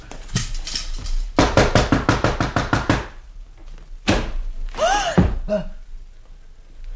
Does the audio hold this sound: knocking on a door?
yes